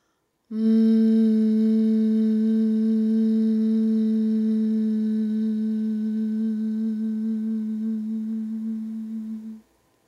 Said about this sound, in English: And we're going to start with some humming first of all. So let's all join in.